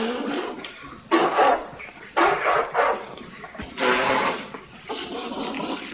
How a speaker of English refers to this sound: Meanwhile, Henry splashes water on his face